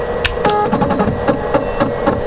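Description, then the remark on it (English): A scanner, with the first page of a book placed on it and the lid closed, chugs through its self-test after the scan key is pressed: a steady train of short mechanical clunks and whirs, roughly two or three per second, with a faint high electronic whine underneath and no talking. “It makes a funny chugging noise, like a chicken, I always say.”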